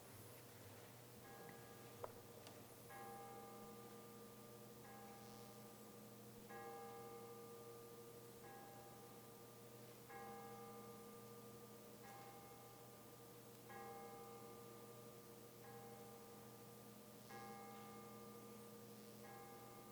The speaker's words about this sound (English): We're going to ring it 21 times. It's known as the Bells of Peace, and I invite all of us to pray for peace as the bells are rung 21 times.